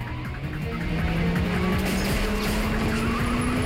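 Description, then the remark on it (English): Cars roar at high speed in a chase, weaving in and out of heavy traffic, a loud engine climbing steadily in pitch over a dense rumble of other vehicles, with faint tire squeals mixed in. “The henchman opens fire at their car again as they weave in and out of traffic.”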